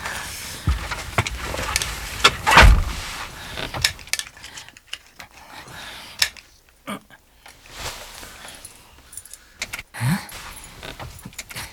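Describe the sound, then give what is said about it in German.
Keys jangle and rattle in an ignition, followed by a scattered series of sharp mechanical clicks as the car fails to start. The engine never turns over or catches. “Ich mach schon mal den Wagen an.”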